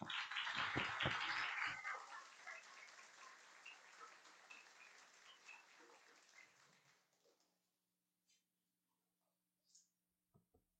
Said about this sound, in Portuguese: As palmas para Jesus.